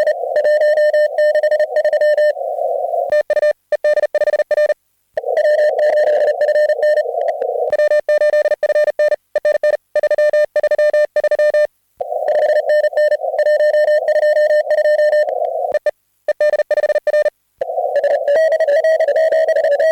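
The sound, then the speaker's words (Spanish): A loud, steady Morse code telegraphy tone keys on and off over radio in rapid dots and dashes at about 40–42 words per minute. It has brief pauses between groups, is slightly buzzy, and is heard alone without any voices. It is a repeating message sent in a loop. “Ah, por cierto, y los que tenéis bien, bien entrenado el oído al Charlie Whiskey, pues ya sabéis, apurad ahí estos minutos para agudizar y practicar vuestra operativa en telegrafía.”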